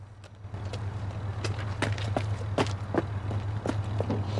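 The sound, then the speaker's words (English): Quick, regular footsteps of a man running into a car park strike a hard outdoor surface, over a steady low rumble of a car engine left running. “rushes into the car park and finds his friend's vehicle.”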